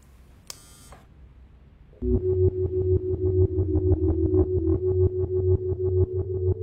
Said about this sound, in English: Mark, press the buzzer.